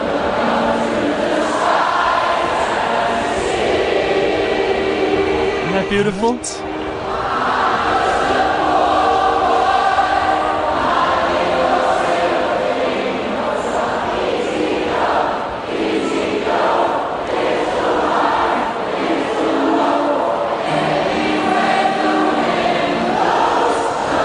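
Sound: noisy crowd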